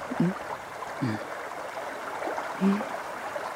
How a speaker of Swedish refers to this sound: Vi lyssnar till pårlet lite granna från vattendraget vi sitter in till.